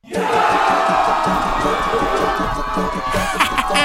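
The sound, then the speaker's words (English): A large, excited crowd following Rukana and the Prophet Muhammad to a wrestling arena, an oval drawn in the dirt, cheers and shouts in a dense, continuous roar, loud, holding steady for a few seconds with scattered individual yells rising above the din. “With the crowd in eager pursuit, the Rasul, peace be upon him, followed Rukana to the wrestling arena, which was nothing more than an oval drawn in the dirt.”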